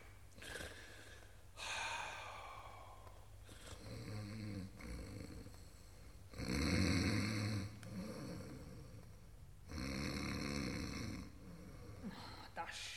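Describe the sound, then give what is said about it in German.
A woman snores in slow, repeated cycles, each breath a rasping, rattling rumble that swells and fades, with brief quiet gaps between the loud snores. “Schnarcht ja eine.”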